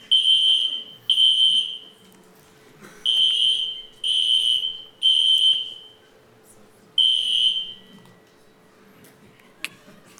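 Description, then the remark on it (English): A fire alarm blares in loud, shrill electronic beeps, each about a second long, repeating in uneven bursts with short gaps, over a faint steady hum. “Is it so hot in here that the fire alarm went off?”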